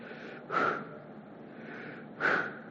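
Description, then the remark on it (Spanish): Slow, audible breathing: a sharp breathy burst, a softer sustained airflow, then another forceful breath, like a deliberate inhale and exhale performed alone with no talking. “estas letras que vemos aquí son o representan la fonética de la respiración del ser humano.”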